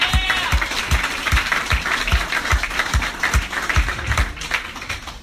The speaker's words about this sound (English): And now let's get a big round of applause going for your next comedian,